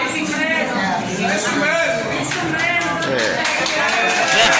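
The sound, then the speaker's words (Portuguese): A crowd of people shouting and chanting together, many loud overlapping voices, with a steady dense din and some claps or taps mixed in. “Vocês estão ouvindo aí, né? Como até o médico, povo lá gritando.”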